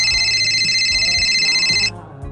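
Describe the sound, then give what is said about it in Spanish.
A mobile phone rings with a bright, steady electronic tone as its owner calls his own phone; the ringing stops abruptly near the end, heard loud over a low background rumble. “La verdad que localizar al dueño del móvil fue fácil, porque fue él realmente el que llamó a su propio teléfono”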